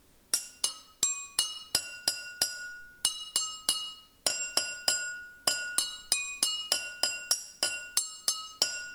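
A quick, melodic run of bright clinks as tuned drinking glasses are struck with a metal spoon, each ringing tone decaying briefly, with a short pause mid-tune before the notes resume.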